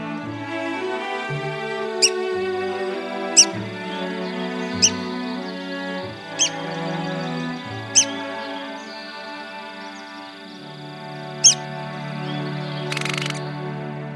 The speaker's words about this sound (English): That's the endangered red-cockaded woodpecker